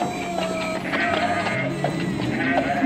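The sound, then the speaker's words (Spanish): Several sheep and goats bleat in overlapping, wavering calls over a steady, dense background murmur of animals, fairly loud throughout, in a stable of goats and sheep in Bethlehem. “El burro olfateó y les condujo a un establo de cabras y ovejas.”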